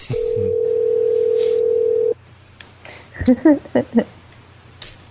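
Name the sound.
phone ringing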